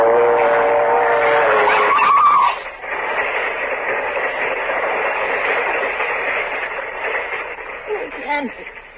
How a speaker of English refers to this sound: The train! It's not coming down your track! It's coming down this one!